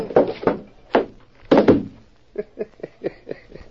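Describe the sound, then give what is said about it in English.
A punch to a man's chin lands with a heavy thud among several dull blows in quick succession, knocking him out, followed by a run of lighter, softer knocks trailing off. “Did you see me nail him on the chin? Sure, clipped him square.”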